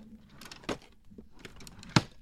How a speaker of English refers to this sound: there was one at like 3 a.m. and all my wardrobe drawers were opening and closing. That, you know, that noise of a drawer, like, listen to this.